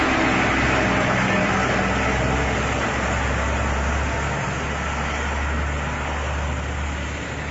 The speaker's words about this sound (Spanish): La gente está preocupada porque vial que no está acondicionado para el cruce de dos vehículos. Vial que no tiene arcenes para que las personas puedan caminar por ellas con seguridad. En COPE Santiago nos hemos ido en coche por este vial.